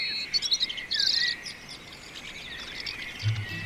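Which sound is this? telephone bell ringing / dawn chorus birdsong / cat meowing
dawn chorus birdsong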